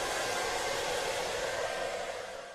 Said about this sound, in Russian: После купаний собаку можно сполоснуть в душе и высушить феном.